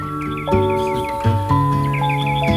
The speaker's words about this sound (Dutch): Vogeltjes. Op de achtergrond.